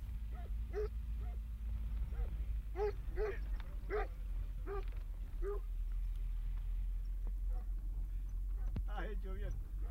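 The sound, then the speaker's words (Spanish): A car rumbles steadily along a dirt track through the sierras at night, its low engine drone constant throughout, while dogs bark repeatedly in short bursts over the noise. “Pues por aquí vamos, por el carril en busca de Ignacio”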